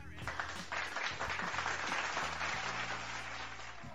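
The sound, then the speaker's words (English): Sustained applause from a crowd, dense and steady for about four seconds, with cheering voices mixed into the clapping at a fairly loud level, celebrating a basketball player who set the NCAA Division I scoring record. “I think we should almost double up on those claps and cheers.”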